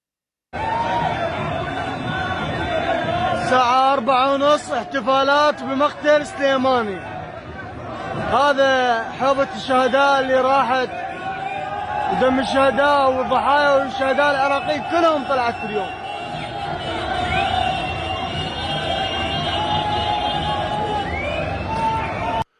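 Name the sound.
street crowd cheering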